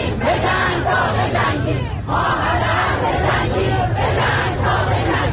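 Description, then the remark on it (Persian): A large crowd of protesters in Iran chants together in loud, rhythmic bursts of shouting, the massed voices rising and falling in repeated phrases with a brief dip before surging again. “با وجود این جو امنیتی همچنان اعتراض‌ها ادامه پیدا کرده.”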